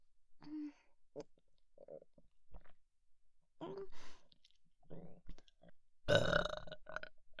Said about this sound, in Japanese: わかるよ。ゲップするたびに、嬉しそうにしてたよ。ほら、素直になって、妹ゲップ、受け取って。